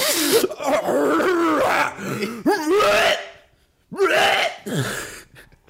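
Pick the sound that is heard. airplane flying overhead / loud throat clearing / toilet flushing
loud throat clearing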